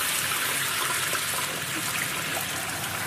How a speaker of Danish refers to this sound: Okay, så lad os bare nyde lyden af en frityre, der står og bobler.